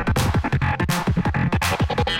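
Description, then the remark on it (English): Loud, dense rhythmic pulses repeat in quick succession, each smeared and trailing into the next as if heavily echoed, giving a washy, reverberant throbbing with no talking. “Hey, it's got some echo on it.”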